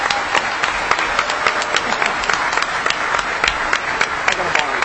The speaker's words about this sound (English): Now, here's what I'm going to do. I'm going to, A, ask everybody to clap because these guys busted their ass.